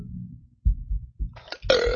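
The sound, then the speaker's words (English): A burp: a few low, gurgling rumbles build into a louder, drawn-out belch with a raspy, slightly falling tone, about two seconds in all with no talking. “Excuse me.”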